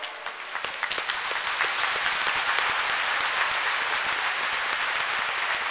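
An audience bursts into sustained applause for the Lord, many hands clapping in a dense, steady wash that starts with a few scattered claps and quickly fills out, continuing without any voices.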